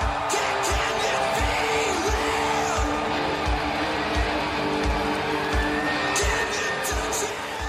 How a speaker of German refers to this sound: Ja, es ist eine Pressekonferenz, die Leute schreien, die Leute kreischen.